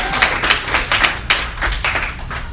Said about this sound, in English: Okay, clap it up your next comedian,